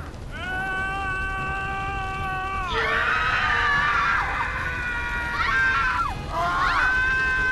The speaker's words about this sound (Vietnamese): Hỏa ngục, nơi có những tiếng la hét trong đau đớn và tuyệt vọng.